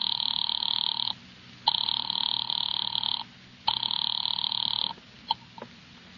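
A telephone line rings as a call is placed to an office number: a steady electronic tone repeats in three long bursts separated by brief gaps, clear and fairly loud, with a faint hiss underneath and no one speaking.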